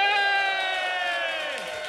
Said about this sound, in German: Und ich wünsche mir einen richtig fetten Applaus